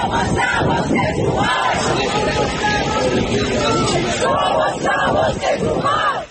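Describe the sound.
A large crowd in Madrid, Spain, shouts the name of an Iranian protest rapper together in support of him, in loud, rhythmic chants, many voices rising and falling in a dense roar that fills the whole clip.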